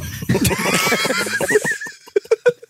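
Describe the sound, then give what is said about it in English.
A horse neighs in a long, quavering whinny that wavers up and down, followed by a few sharp, spaced thumps like hooves as it fades out. “And I remember loshat is horse.”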